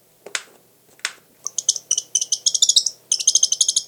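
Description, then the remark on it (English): A northern saw-whet owl gives a rapid, high-pitched twittering call in quick bursts, preceded by two sharp bill snaps; fairly loud, with no other sounds. “And here's a twitter call with a snap of the bill.”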